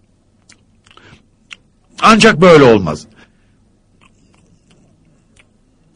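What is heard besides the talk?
person chewing food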